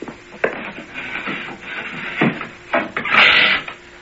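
household object, door being opened

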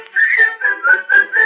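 human body sound, human whistling a tune

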